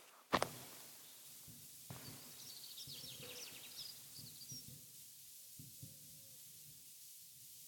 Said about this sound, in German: Tauben sind auch hier, die scheiß Punks der Lüfte.